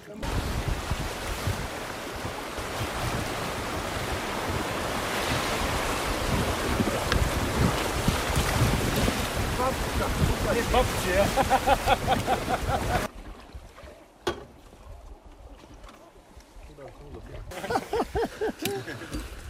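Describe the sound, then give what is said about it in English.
Loud, steady rushing of rough river water in a canyon in Bosnia, about an hour from Sarajevo, with wind buffeting, then a sudden drop to calmer, smoother water, with faint voices briefly audible. “Water gets a little rough, then smooth, but a beautiful scenic view.”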